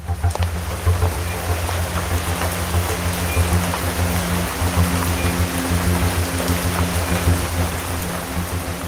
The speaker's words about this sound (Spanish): ponte a resguardo, que está diluviando, está lloviendo